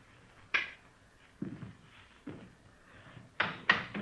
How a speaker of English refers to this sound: Go ahead, open the door. Go ahead.